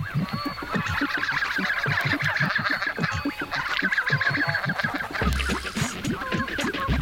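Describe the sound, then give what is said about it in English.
A flock of geese gabbling steadily, the adult birds gabbling with occasional louder honks and the young birds of the year giving thin, high, lisping whistles threaded through the busy, continuous chatter. No voices. “The old birds are gabbling with occasional honks, and the birds of the year are giving the lisping baby whistles, which, strangely enough, they have not yet outgrown.”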